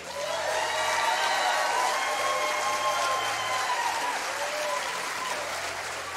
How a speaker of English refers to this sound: So at this time, I would like everyone to really give a warm applause and to lift up one of the GOATs, and that is Jim Brown.